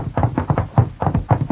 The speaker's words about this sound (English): Knocking won't help this time. Smashing in.